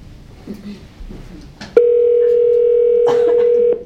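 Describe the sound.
A loud, steady telephone dial tone plays over a speakerphone for about two seconds as a meeting calls in a participant by phone, a single unbroken hum that cuts off abruptly, with faint background noise and brief murmurs around it.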